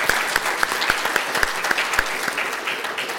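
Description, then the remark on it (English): A round of applause from an audience for Erin Murphy, called for by Representative Jennifer Loon: steady, dense clapping with a few louder, sharper claps standing out at a fairly even rhythm, continuing for a few seconds with no talking. “I think we should give Erin a round of applause.”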